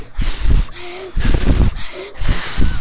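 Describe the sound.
In a telling of the three little pigs, a voice imitates the wolf blowing on the pig's straw house: three loud, breathy huffs in a steady rhythm, each a long forceful gust of breath with a brief pause between.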